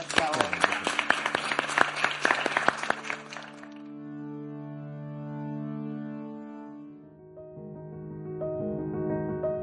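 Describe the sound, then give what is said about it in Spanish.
A burst of lively applause as speaker and audience applaud one another at the close of a session of the BBVA program Aprendemos Juntos 2030, many hands clapping densely for a few seconds, then fading out as sustained tonal music takes over. “Nos aplaudimos entre todos, ¿les parece?”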